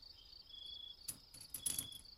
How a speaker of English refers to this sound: Exactly. It's nature out there. There's crickets and birds. Things like that. You can tell we're not anywhere close to the city. It's gotta be farmland. Or some kind of small country town.